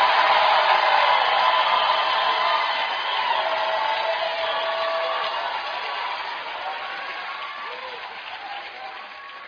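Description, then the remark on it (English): A church audience erupts in a loud, sustained roar of screaming, shouting and clapping to God that holds steady for several seconds, then gradually fades while still going. “Give God a big scream and shout for a second.”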